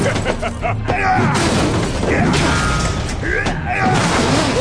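A heavy hammer smashes into one of many metal consoles lining a wall, loud, with a dense, clattering mechanical crash that keeps rattling and grinding for several seconds and surges again near the end.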